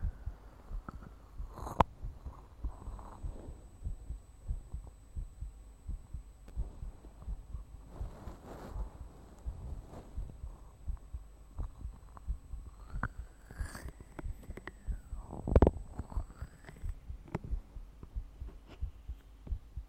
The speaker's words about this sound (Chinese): 先生，只是让你听心跳，脸不可以来回侧哦。